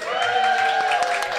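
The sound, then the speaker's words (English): A live audience claps and cheers in a steady, dense wash of applause, with a few sustained whoops rising above the clapping, fairly loud throughout the brief moment. “That's the noise of people who are alive!”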